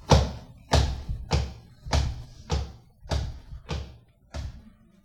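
Heavy footsteps of a marching crowd, eight loud, evenly spaced stomps with a deep thudding beat and a short scuffing tail after each, steady in rhythm with no voices.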